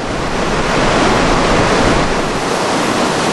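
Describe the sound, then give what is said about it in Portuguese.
A steady, deafening roar of falling water, dense and continuous across the whole clip, from the largest waterfall in North America in Yosemite, with three drops totalling 740 metres in height and fed by snowmelt, with no voices over it. “O barulho ensurdecedor é da maior cachoeira da América do Norte.”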